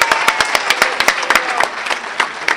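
A small meeting audience applauds to thank a speaker for her share, with many hands clapping in a quick, uneven patter of sharp claps throughout, moderately loud, with no talking over it.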